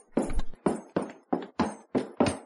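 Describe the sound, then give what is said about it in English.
Horse hooves clip-clop in a quick, steady rhythm as riders set off on horseback: about seven sharp, fairly loud hoofbeats, with no talking. “Let's get out pronto. Pile on our horses.”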